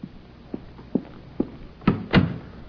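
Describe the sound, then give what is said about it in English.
A few soft, evenly spaced thuds lead into two louder, fuller knocks, like a door being pushed shut and settling into its frame, with no voices. “close the door. Close it.”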